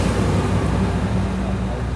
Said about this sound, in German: Lastwagen.